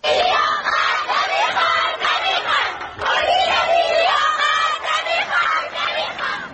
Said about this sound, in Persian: دانش آموزان این مدرسه دخترانه در محله دیلمان شهر ری در اعتراض به سیاست‌های مدیریتی این مدرسه در داخل حیات تجمع و شعار اعتراضی دادند